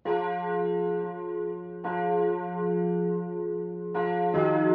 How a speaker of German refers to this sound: Sonntagmorgen in der evangelisch-lutherischen Kirchengemeinde Meiendorf-Oldenfelde in Hamburg. Die Kirchenglocken läuten